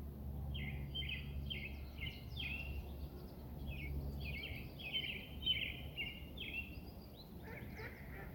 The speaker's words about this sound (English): And I'm just trying to identify birds and look at them. And it is a great day for birds. Can you hear them?